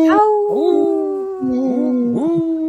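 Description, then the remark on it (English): A person imitates a wolf howl, a loud sustained wavering cry that rises, dips and swoops in pitch for a few seconds without a break. “Thank you, …, for howling.”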